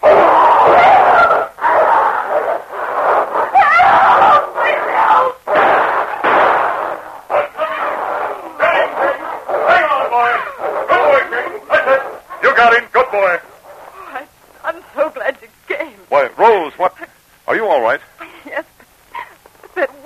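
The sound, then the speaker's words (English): A huge dog named King fights a wolf, hurtling straight for its throat, with loud, harsh snarls and growls in rapid, overlapping bursts that break into shorter, choppier yelps and snaps toward the end. “But at that moment, another gray form sprang from the darkness as the huge body of King hurtled straight for the wolf's throat.”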